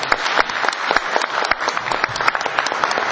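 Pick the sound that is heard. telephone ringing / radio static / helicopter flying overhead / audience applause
audience applause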